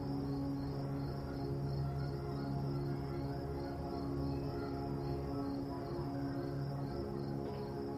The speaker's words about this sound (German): Oder, wenn du auf dem Land lebst, das sanfte Zirpen der Grillen.